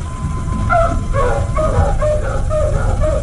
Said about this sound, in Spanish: ¿Escuchan? Lucifer está ladrando.